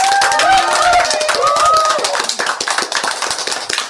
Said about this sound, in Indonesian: Sekali lagi, tepuk tangan yang meriah untuk puisi Uci dan petikan gitar Dodit.